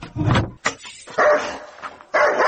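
A dog barks loudly, a few harsh, irregular bursts with short pauses between them, and no one speaking.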